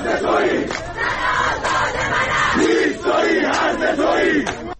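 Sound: protesters chanting slogans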